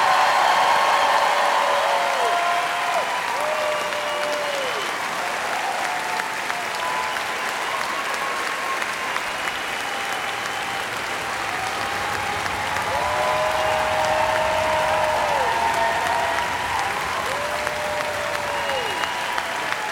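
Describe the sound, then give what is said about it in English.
Sustained audience applause at a Cornell reunion for two Cornellians of the class of 1931, a dense, steady wash of many hands clapping for the full twenty seconds, with a few brief whistle-like tones rising over the noise. “My notes say, have audience hold applause till you introduce them by name.”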